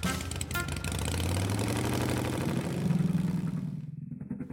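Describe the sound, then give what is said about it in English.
A small scooter engine revs up and pulls away, its buzzing pitch climbing steadily as it accelerates, then thinning out toward the end. “Then she took off down the scooter path that led to her Grammy's house.”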